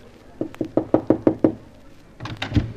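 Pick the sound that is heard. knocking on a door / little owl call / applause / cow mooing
knocking on a door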